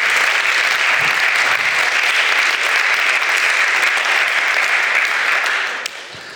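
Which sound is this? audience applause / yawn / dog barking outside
audience applause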